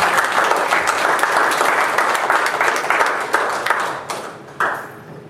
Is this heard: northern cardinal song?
no